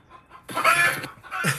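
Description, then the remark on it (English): A chicken clucks loudly: a brief soft note, then a long raspy squawk and a sharper final cluck, with no talking over it. “Is that chicken pissing you off, or are you guys fine?”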